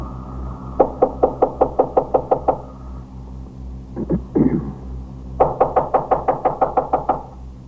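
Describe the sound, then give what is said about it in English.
Two bursts of rapid, heavy knocking by police officers on an apartment door on the fourth floor, each about eight or nine sharp raps in quick rhythm, separated by a brief muffled pause. Loud, with no voices. “Knock it in. Use those axes.”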